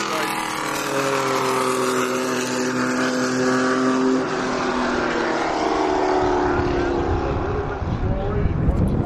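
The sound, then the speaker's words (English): A 2002 Pontiac Grand Prix race car, number 147, driven by race leader Mike Norrell of Newmarket, Ontario, roars past, its loud engine holding a steady, whining drone that dips in pitch midway before breaking into a rougher, grittier rumble toward the end. “That's the leader. 2002 Pontiac Grand Prix.”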